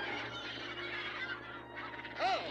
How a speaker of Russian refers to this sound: Какие мерзкие птицы, пошли прочь.